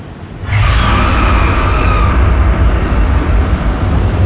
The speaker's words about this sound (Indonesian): Dan ketika aku menaikkan mobilku ke arah flyover daerah Balubur, sorot lampu mobilku tanpa sengaja menembak pinggiran Pasupati.